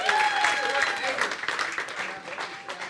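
An audience claps in a steady, dense burst of applause lasting a few seconds, with a few whistles or cheers rising above the clatter of hands.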